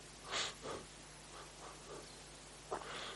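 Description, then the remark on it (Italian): Soft, airy deliberate breathing used as a meditation object: a quick intake and release, a few faint breathy puffs, then a longer slow exhale near the end. There is no talking. “E quando ho fatto il respiro, c'era un elemento di sensibilità verso il respiro, ma anche una presenza mentale, un'attenzione rivolta verso il respiro.”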